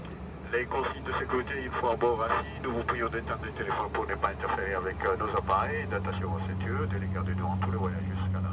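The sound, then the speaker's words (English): A steady, low airplane cabin drone hums throughout a daylight flight over the water between Anjouan and Mayotte, growing more prominent in the second half, while a person speaks continuously over it. “So going on this flight is actually cheaper than going on the Kwasa Kwasa illegal fishing boats.”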